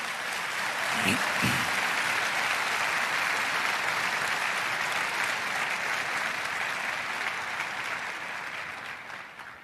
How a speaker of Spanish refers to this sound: ¿Puedes darle un fuerte aplauso al Señor en esta mañana?